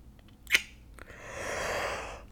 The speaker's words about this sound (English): Don't yawn at me. It is early.